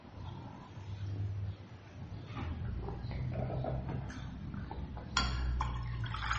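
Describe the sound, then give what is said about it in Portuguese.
Someone drinking water: soft liquid sloshing and swallowing over a steady low rumble, with a brief sharper burst of sound near the end. No one speaks. “Deixa eu tomar água.”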